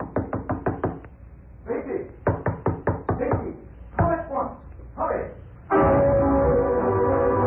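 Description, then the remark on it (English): Two quick, loud runs of rapid knocking on a door in the middle of the night, about half a dozen raps each, broken up by urgent voices, ending with a loud sustained call. “Mr. Samson at the door.”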